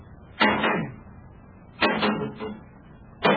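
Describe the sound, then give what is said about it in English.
A metal rod knocks hard against a sheet of Endurium metal three times to knock worms off it, each strike ringing with a quick follow-up clank, spaced over a second apart, fairly loud with no talking. “You can knock them off with that.”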